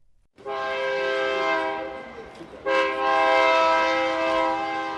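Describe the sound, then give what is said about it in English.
A train horn sounds two long, loud blasts, the second following almost immediately after the first, over a low rumbling of a passing train on old train tracks beside a parking lot near the historic stockyards of Fort Worth, Texas. “Out near the historic stockyards of Fort Worth, Texas, there's a parking lot next to the old train tracks.”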